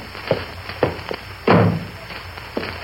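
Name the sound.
door being shut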